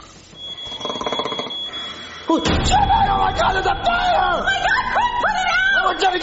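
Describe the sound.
A fire alarm sounds a shrill, steady electronic tone with rapid pulsing beeps, then loud, frantic shouting voices break in and carry on over the alarm.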